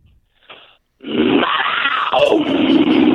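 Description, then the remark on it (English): A man's voice lets out a long, loud, rasping growl imitating a panther, starting after a brief breathy lead-in and holding steady, rough and low, for about two seconds. “Give us one more growl.”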